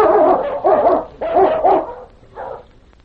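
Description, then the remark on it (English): A blind husky gives a run of drawn-out, whining barks, four loud yelps in quick succession followed by a softer whimpering call, with no one talking. “Come on, you husky.”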